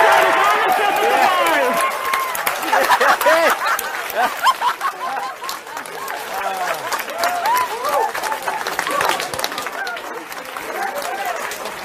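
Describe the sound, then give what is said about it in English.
A crowd at NASA's Jet Propulsion Laboratory cheers and whoops loudly after touchdown is confirmed, with steady clapping and excited shouting voices overlapping throughout, sustained at high energy without a pause. “You hear the sounds of cheers echoing the walls of NASA's Jet Propulsion Laboratory?”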